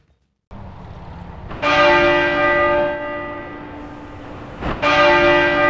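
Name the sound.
church bells tolling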